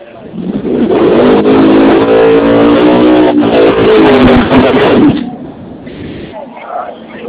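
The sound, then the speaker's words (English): A loud street car engine revs hard and roars for several seconds at the start line of a street race, rising in pitch, then cuts off abruptly, leaving quieter background noise with faint sounds. “Like some street cars there.”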